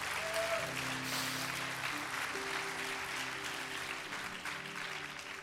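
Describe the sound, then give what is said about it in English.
A church audience claps loudly and steadily to give God a big hand, a dense wash of many hands with no gaps, while low sustained tones hum beneath it throughout. “Est-ce qu'on peut applaudir le Seigneur bien fort?”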